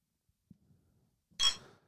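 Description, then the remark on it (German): Berliner Kindl beer bottles clink together once in a toast, a bright glassy knock with a short ringing tail, preceded by a faint soft tap and no voices. “Machst du jetzt mal dein Berliner Kindle auf oder wie ist die Lage? Ich würde jetzt mal wieder anstoßen.”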